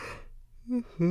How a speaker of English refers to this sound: You can't yawn like that, baby. Give me another kiss. You'll yawn in my face. Mm, you're so sleepy.